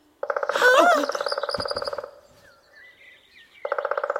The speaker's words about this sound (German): Keine Panik. Das ist nur ein Specht.